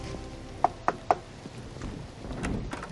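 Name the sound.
knock on a door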